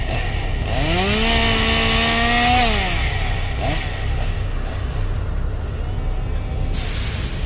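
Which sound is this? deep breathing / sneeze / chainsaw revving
chainsaw revving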